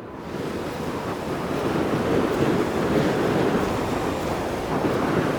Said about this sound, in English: Lawi awoke to the sound of wind traveling at alarming speeds, whistling in his ears as it visually skimmed across his skin. Violent wind?